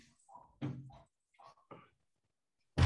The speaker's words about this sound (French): je vais juste fermer la porte derrière